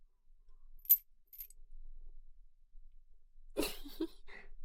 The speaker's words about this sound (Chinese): 那钥匙给你。